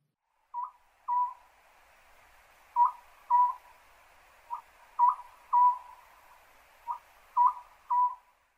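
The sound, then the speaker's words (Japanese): A Eurasian scops owl calls in short, clear hooting notes grouped in twos and threes, repeating steadily over a soft, even background hiss, with no voices. “コノハズクです。”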